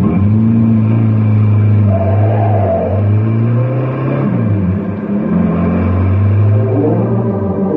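A car engine revs and accelerates, its low droning pitch rising and falling in steady waves, loud throughout with no voices.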